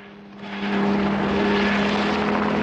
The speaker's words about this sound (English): The chopper plunges rapidly towards the scrub-covered slope, then lurches out of the dip at the last moment, right in front of dumbfounded Johnson.